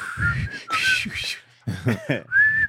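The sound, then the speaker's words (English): A person whistles the Andy Griffith Show TV theme melody, airy and breathy, in a few quick phrases separated by brief pauses, with no talking. “That wasn't even the whistle. That was close enough. It was enough to where I recognize it.”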